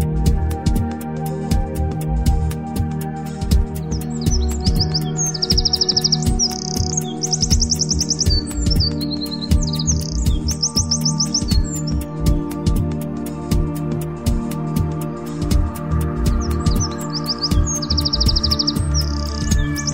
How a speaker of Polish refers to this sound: Dzisiejsza książka jest pełna dźwięków. Są to ptaki, które możemy posłuchać dzięki płycie dołączonej do tej książki.